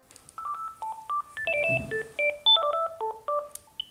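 A rapid run of telephone keypad tones, about a dozen short dual-pitched beeps in quick succession as a number is dialed for a phone call, clear with no voices.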